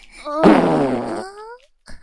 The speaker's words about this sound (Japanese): おならとお尻の体感で頭トロトロになっちゃうね。